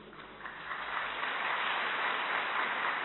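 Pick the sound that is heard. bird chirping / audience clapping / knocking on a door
audience clapping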